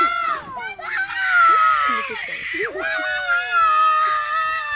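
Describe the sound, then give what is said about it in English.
Several boys shout loudly at a crying, wailing boy, telling him to shut up and not to cry; one of the boys had just hit him across the back with a stick. Their high, strained voices overlap in a continuous, agitated commotion. “And the other boys are shouting at him. They're telling him to shut up.”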